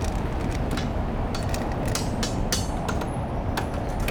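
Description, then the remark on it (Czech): A white cane taps repeatedly against a street booth, giving a steady run of sharp, bright clicks over a constant low rumble of street noise, with no voices. “Tady je budka, která vydává taky typický zvuk po ťuknutí holí.”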